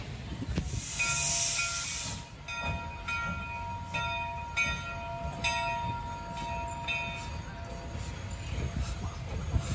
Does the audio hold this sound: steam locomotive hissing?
yes